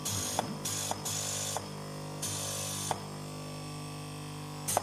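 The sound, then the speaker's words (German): A small cold-air blower, a kind of cold-air compressor or hair dryer, hums steadily while drying special electrode glue, punctuated by several short, loud bursts of hissing air at irregular intervals, with no voices present. “dann gibt es einen Spezialkleber, der gleich angetrocknet werden muss. Das ist so eine Art Kaltluftkompressor oder auch Föhn.”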